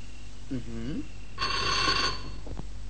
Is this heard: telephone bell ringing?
yes